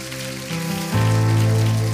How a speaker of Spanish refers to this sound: Dale ese aplauso a nuestro papá.